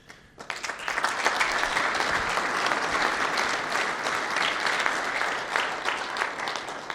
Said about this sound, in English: And that's why he got the big applause. Every last person here adores that man.